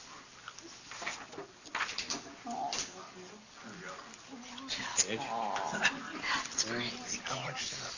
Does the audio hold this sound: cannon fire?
no